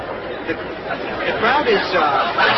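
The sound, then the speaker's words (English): A dense hubbub of many overlapping voices chattering at once from a Thanksgiving crowd moving out into a parking area, a steady murmur that swells slightly louder toward the end with no single speaker standing out. “The crowd is moving out into the parking area.”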